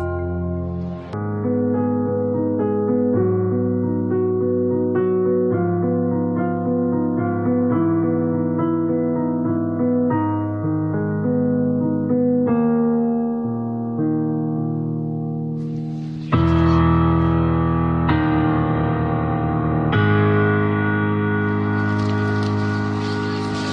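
An instrumental composition plays with sustained, rich chords that shift every second or so at a steady level, then swells into a fuller, brighter and louder passage for the last several seconds. No voices.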